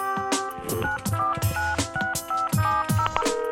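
A rapid run of telephone keypad tones, short electronic beeps stepping through a dialed number to book a table at Restaurant El Galliner in Bellaterra, clear with no voices.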